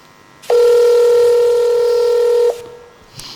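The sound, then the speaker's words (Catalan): A single loud, steady electronic telephone keypad dialing tone holds for about two seconds as a phone call is placed, then cuts off abruptly, with no voices and only faint background noise around it. “Tirant de contactes i cobrant-me un parell de favors, he aconseguit el telèfon d'un poeta de l'infern a qui m'agradaria fer-li un parell de preguntes. Truca, truca.”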